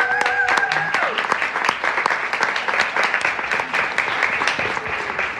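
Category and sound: crowd, audience applause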